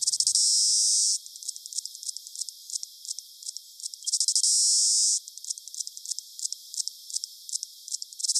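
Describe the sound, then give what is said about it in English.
An alarm clock squawker insect calls: a loud, high, harsh buzzing burst about a second long, followed by several seconds of rapid, irregular ticking, then the buzz and ticks repeat. No voices. “The alarm clock squawker.”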